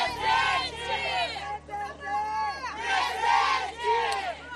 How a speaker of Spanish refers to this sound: Miles de personas han salido esta tarde a las calles de Río para protestar contra el uso excesivo de la fuerza y exigir la renuncia del gobernador de la ciudad, Claudio Castro, que, por cierto, sigue diciendo que la operación ha sido todo un éxito.